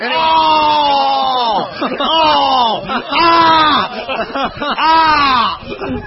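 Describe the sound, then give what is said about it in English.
A voice screams loudly and close to the microphone in several long, wavering bursts with short breaks between them, harsh and strained across the whole stretch. “See, this screaming.”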